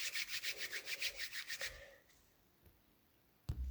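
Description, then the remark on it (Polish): Palms rub briskly against each other, palm against palm, in quick, even back-and-forth strokes as hands are rubbed in circles while applying hand cream: a soft rhythmic swishing for about two seconds, then quiet with a faint rustle and a brief thump at the end. “Pocieramy. Zataczamy koła. Dłoń o dłoń.”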